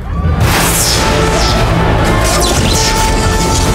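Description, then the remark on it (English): After a brief quiet moment, fireworks for an official opening erupt loudly with lights and keep going, a dense wall of booms and crackling with rising whistles layered over the steady roar. “A bunch of kind of lights up and fireworks and stuff.”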